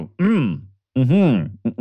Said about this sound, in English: Sorry, I gotta clear my throat.